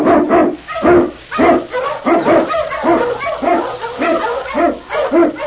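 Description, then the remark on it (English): A pack of huskies, the Eskimo sled dogs of Sergeant Preston of the Yukon led by King, barks and yips excitedly as they are urged on through snow, a dense, overlapping chorus of sharp, repeated calls that stays loud throughout, with a faint low hum underneath. “On you Huskies!”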